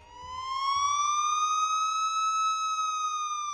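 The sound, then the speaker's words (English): A police siren wails loudly and steadily, its tone sweeping slowly upward and holding high, with a faint low rumble underneath at the start. “But luckily, before the guy could stuff me in his trunk, police sirens rang out.”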